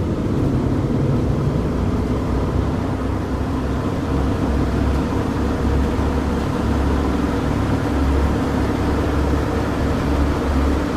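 vehicle, airplane engines revving up

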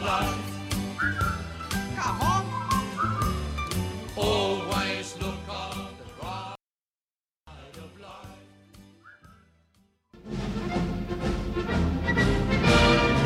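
sound effect, whistled melody

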